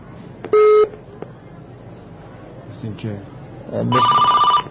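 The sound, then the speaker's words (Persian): An incoming telephone call to a live call-in programme on the Velayat World Network rings with electronic tones: a short steady beep early on, then a louder, longer warbling ring near the end, over faint background murmur. “تلفن هم داریم با اجازه شما.”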